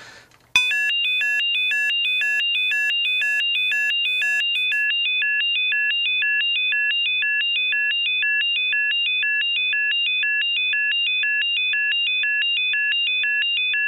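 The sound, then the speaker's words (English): A telemetry alarm at the Space Operations Centre in Darmstadt, Germany, set off at 22:46 to alert the spacecraft controller to a signal from Philae: a loud electronic chime repeating a quick high-pitched warbling tone pattern at a steady rhythm, with no voices, after a brief click at the start. “The alarm that came set off at the control center to alert the controller that there is a signal from Philae, and the controller confirmed that the signal is real and consulted an action sheet kept on hand at the control desk.”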